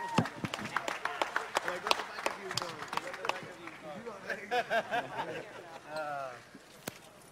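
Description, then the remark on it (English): A round of applause: dense, steady clapping from a group, with scattered cheers and excited voices rising over it partway through, then tapering off near the end. “Big round of applause for two classy, classy gentlemen.”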